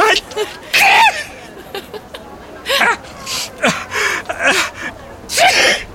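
A series of close, loud sneezes, five or six explosive bursts coming one after another over several seconds, each with a sharp breathy hiss.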